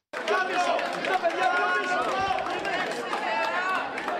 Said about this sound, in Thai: ประชาชนชาวกรีกต่างส่งเสียงเชียร์ให้กำลังใจนายกรัฐมนตรีอเล็กซิสซิปราสที่เดินเข้าคูหาลงคะแนนชานกรุงเอเธนในวันอาทิตย์